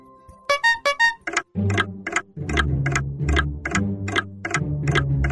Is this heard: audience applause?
no